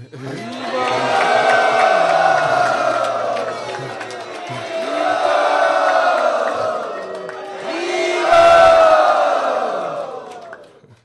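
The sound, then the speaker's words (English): A large crowd shouts "Hari Bol" in three long, swelling roars of many voices, each rising and fading over about four seconds, with a wash of applause-like noise beneath. “Not just by a big Hari Bol and applause, but we can do that too.”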